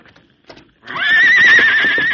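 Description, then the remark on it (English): A few soft hoof thuds, then a horse named Scout, resisting two men trying to hold him, lets out a loud, sustained whinny with a high, quavering, wavering pitch that holds steady to the end. “Come on, let's get that horse.”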